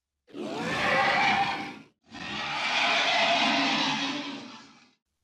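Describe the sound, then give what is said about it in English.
A voice imitates a scary sea monster with two long, loud, breathy roars separated by a brief pause, each swelling and then fading with a rough, growling texture. “On the count of three, let's make our scariest sea monster noise.”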